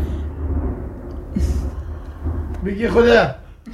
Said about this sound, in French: Et je suis sûr que ce tonnerre qu'on entend, il l'aurait utilisé, vous l'auriez utilisé pour un tournage comme un élément de fiction.